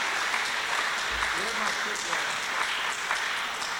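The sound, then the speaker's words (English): An audience at a band's live show applauds steadily for about four seconds, a dense, continuous wash of many hands clapping at an even loudness, with faint crowd voices mixed in. “I gotta tell you something, it's so nice to hear so many people applauding.”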